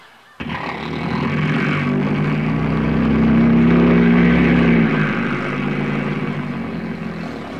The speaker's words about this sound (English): The engine starts. The engine starts, the plane taxis out to the end of the runway.